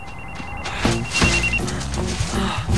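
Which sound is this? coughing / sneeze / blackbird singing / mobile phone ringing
mobile phone ringing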